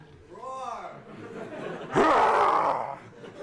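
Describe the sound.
A person does a mock lion's roar: after a soft wavering vocal sound, a loud, raspy, breathy growl bursts out and holds for about a second.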